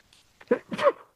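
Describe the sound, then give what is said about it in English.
A single sneeze, fairly loud, with a quick sharp intake followed by a bursting exhale, standing alone without any talking over it. “Bless you.”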